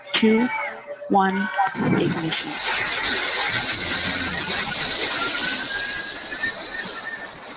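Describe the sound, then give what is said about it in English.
Short voiced countdown calls at the start give way to a loud, sustained roar of rocket engines igniting at the launch of the Jeff Bezos-backed all-women crewed space mission, a dense rumbling blast that swells quickly and holds steady to the end. “5, 4, command engine start.”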